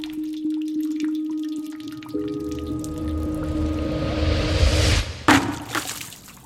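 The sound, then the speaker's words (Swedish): Water drips and trickles steadily into a bucket hanging by a string out through a window, a soft patter over a faint ringing hum that gradually swells as it fills, with one sharp knock near the end. No one speaks. “Hör hur hinken sakta fylls.”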